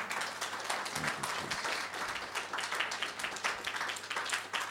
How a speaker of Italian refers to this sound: C'è un applauso a Gesù per questo.